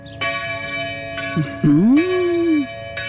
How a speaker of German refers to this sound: Ich rufe wegen der Kirchenglocke an.